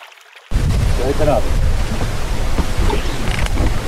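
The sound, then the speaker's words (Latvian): Wind over Lubāns, Latvia's largest lake, surges in abruptly after a brief quiet moment, then roars steadily as a loud, low, gusty rumble buffeting the microphone, with faint voices barely audible beneath it. “Bet no vēja baidot. Jūs tā gribētu noslēpties ātri, jā, no vēja.”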